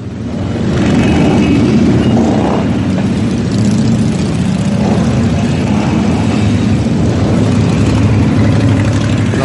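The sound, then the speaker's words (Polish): A motorcycle engine is run during winter upkeep, a loud, continuous low rumble that holds an even idle throughout with no voices. “Pucowany, przepalany, żeby można było ten dźwięk posłuchać, żeby sobie przypomnieć, jak ta maszyna pracuje.”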